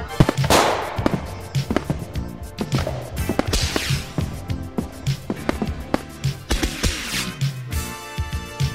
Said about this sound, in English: Oh, I shouldn't have bought the jumbo pack. So many fireworks! There's so many fireworks!